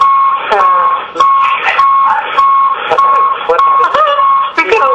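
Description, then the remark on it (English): A steady electronic tone hums through a phone line throughout, with a muffled voice talking faintly over it and occasional clicks breaking in. “We all need to do that, or just whoever is beeping.”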